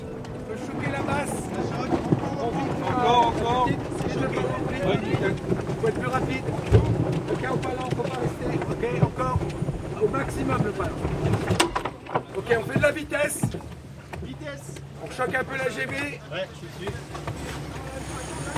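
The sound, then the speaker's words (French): Steady wind and water noise aboard a large sailing ship out on open water in the Brest roadstead, France, with gusts buffeting and a constant low rumble, while indistinct voices murmur underneath. “Alors c'est des termes un peu techniques, mais c'est vrai que quand on est sur l'eau et qu'on a la chance d'être sur l'eau à côté de ces bateaux-là, on en prend plein les yeux.”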